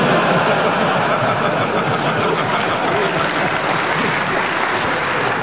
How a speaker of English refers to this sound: Audience, you can clap if you like. If they're getting warm. Or if you're getting cold.